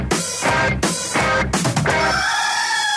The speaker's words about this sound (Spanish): El gallo. Radioactiva. Bueno, aquí estamos en el gallo de Radioactiva.